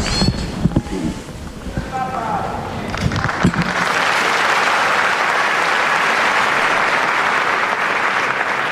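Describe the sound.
A few seconds of mixed voices and shuffling give way to a loud, sustained storm of applause from pilgrims thanking the Pope after his blessing at a papal audience, steady and dense until the end.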